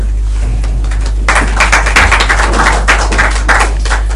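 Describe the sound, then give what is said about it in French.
An audience applauding for Jesus after a Bible reading breaks into steady applause after a short quiet stretch, many hands clapping in a dense, crackling patter that holds at an even level until the end, over a low constant hum. “On applaudit pour Jésus.”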